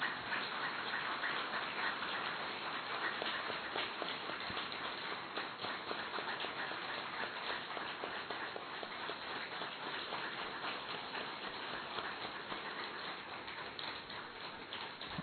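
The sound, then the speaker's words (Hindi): Steady, sustained applause from an audience, a dense patter of many hands clapping at an even loudness throughout, with no voices standing out. “तालियां थोड़ा अच्छी तरह से बजाया जा रहा है।”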